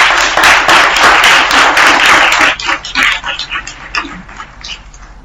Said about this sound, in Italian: Facciamo un applauso.